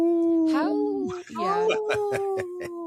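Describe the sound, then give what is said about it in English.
A man's voice mimics a wolf howl, meant as saying no to Minnesota wolf hunts: a long, sustained, wavering tone that slides down, breaks off briefly, then rises and holds again, loud. “So I speak wolf. When I say no, I go,”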